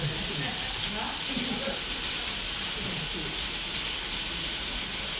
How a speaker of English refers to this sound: Hello everyone, it's another wet day. I'm in the waiting area of the dialysis unit, which has a perspex roof. And as you can hear, it's raining pretty heavily.